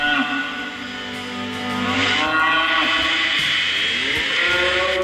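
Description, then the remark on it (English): Cattle low in long, drawn-out moos that rise and fall in pitch, layered over a steady low rumble, with no talking, as they are led, apparently, to a slaughterhouse. The calls sound fairly loud, filling the whole stretch. “For example, if you listen to the title track, you can hear a sample of hoofbeats of cattle as they're led, apparently, to the slaughterhouse.”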